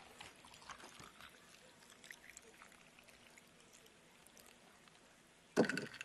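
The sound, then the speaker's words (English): A few fingers of liquor trickle steadily from a flask into a glass, a soft gurgling pour lasting several seconds, ending with a brief louder clink or splash. “Get out the emergency country western music flask that I carry for emergencies like this. Pour myself a few fingers.”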